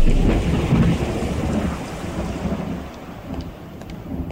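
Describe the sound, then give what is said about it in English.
Steady rain hisses throughout while a deep, rolling rumble of thunder dominates the low end, loudest at the start and slowly fading. No voices are present. “It was raining and I was in a hurry, but even so, I should have realized.”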